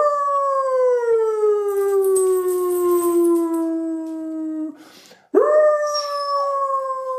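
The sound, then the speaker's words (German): A person imitates a howling dog with a long, loud, sustained howl that slowly falls in pitch. After a brief gap, another rising howl starts up. No talking. “Wir gucken mal, ob die Bina einsteigt. Bina, komm her. Und jetzt, wir gucken. Achtung, das erste bin ich.”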